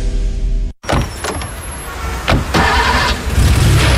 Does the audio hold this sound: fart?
no